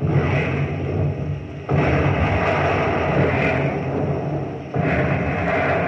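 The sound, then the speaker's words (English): Heavy naval gunfire from a ship firing on an enemy vessel about 500 yards away: a dense, continuous roar with two abrupt surges where fresh salvos crash in and the rumbling barrage swells louder and stays heavy. “Commence firing. Commence firing.”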